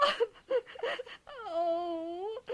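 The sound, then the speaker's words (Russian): A voice imitates an old woman crying while sitting on a bench in a small public square: three short, choked sobbing whimpers, then one long, drawn-out wavering wail, fairly loud, with no other sounds around it. “Сидит недалеко на другой скамеечке старушка и плачет.”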